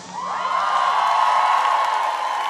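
A crowd in Köln cheers and applauds loudly and steadily throughout, with a sustained whoop or whistle-like tone riding above the broad roar of the audience.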